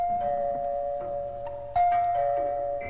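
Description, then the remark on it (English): A house doorbell chimes with a clear, sustained ringing tone, then strikes again a little louder partway through, the notes lingering and overlapping. No one speaks. “It was only an hour later, while she was sewing a dress in the living room, that the doorbell rang.”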